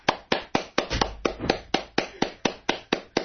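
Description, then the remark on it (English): Steady, measured golf claps, about four per second, sharp, in a soft polite rhythm with no voices over them. “Golf claps.”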